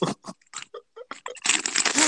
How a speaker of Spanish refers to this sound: ¿Qué estás tragando, güey? Es un chingo de ruido en el micrófono.